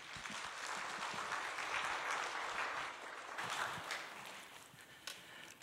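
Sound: welcoming applause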